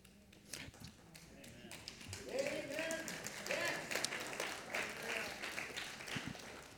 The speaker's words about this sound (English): I'm not quite finished yet, so don't clap.